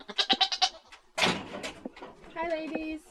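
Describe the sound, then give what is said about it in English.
Two goats, Sunny and Tanya, bleat at milking time on a cool summer morning on Edelin Street in Sitka, Alaska. A quavering, pulsing bleat opens, followed by a burst of rustling and clatter, then a second drawn-out, wavering bleat near the end. “It's a cool summer morning on Edelin Street, and like most days, I've come to milk two of Sitka's resident goats, Sunny and Tanya.”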